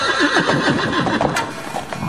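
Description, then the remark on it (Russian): Loud horse hooves galloping in a dense, rumbling rush with an irregular pounding rhythm, heard alone without any voices. “Земля начала ходить ходуном, послышался топот копыт, громкий, как раскаты грома.”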